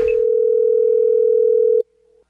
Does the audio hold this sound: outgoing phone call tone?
yes